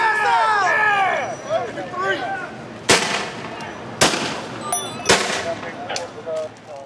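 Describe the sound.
Sharp bangs of tear gas canisters being launched in volleys by police officers at a crowd, three loud reports about a second apart, with the shells hitting the ground, over a steady hubbub of shouting crowd voices with overlapping chatter and cries.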